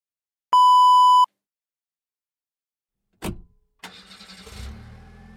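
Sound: car engine starting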